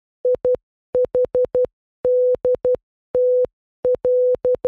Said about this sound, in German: Ja, es war Morsecode, aber es war nicht SOS. Okay. Es war IHDTL, also ich hab dich trotzdem lieb.